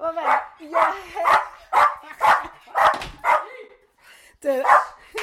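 A dog, the neighbour's dog Dixie, barks about eight times in a quick, steady run of loud, pitched yelps, then goes quiet for a moment before one final bark.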